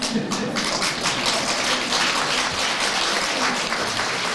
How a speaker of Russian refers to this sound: Ну, вы обождите, не хлопайте.